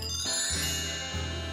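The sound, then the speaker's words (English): A short bright musical chime rings out, a few tinkling tones stacked in quick succession with no voices present, clean and moderately loud, introducing the listener mail segment of Stuff You Should Know. “Well, Jerry, hit us with the chime.”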